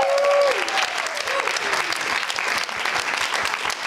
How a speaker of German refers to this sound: Geben wir ihm doch mal einen riesigen Applaus.